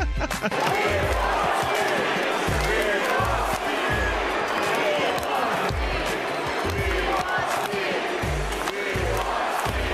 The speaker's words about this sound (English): Are we going to get Steve? Is the question. The crowd is chanting. Are we going to get Steve?